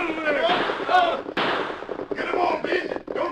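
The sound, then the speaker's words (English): Several loud, sharp gunshots crack out at uneven intervals, their echoes blending into a rough roar, with voices shouting underneath the volley, as a masked man and an Indian forge ahead of a posse with guns blazing. “Then the crook saw a masked man and Indian forging ahead of the posse with guns blazing.”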